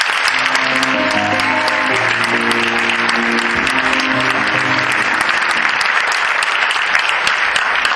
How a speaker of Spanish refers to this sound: para la que pido un fuerte aplauso.